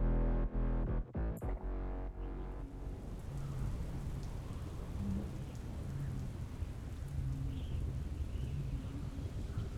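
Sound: rain with thunder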